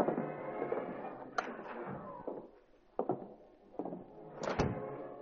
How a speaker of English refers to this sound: Reed and Cato ascended stealthily and opened the unlocked door.